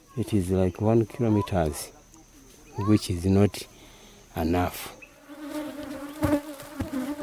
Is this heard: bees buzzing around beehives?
yes